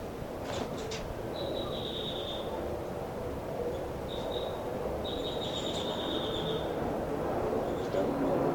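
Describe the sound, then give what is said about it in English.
A bird called 5'9" gives several drawn-out, high whistling calls as he flies around the cell, a long note, a short one, then a longer one, over a steady low rumble of background noise. “This is the calls of 5'9" as he flies around the cell.”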